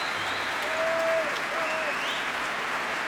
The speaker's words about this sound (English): And quite a lot of them sitting near me as well, as you can hear from the great cheers and roars of approval. And that particularly big cheer is for the founder of the company, Antonio Marquez.